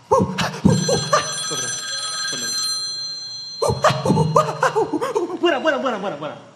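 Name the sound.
telephone ringing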